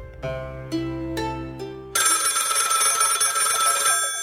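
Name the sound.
telephone bell ringing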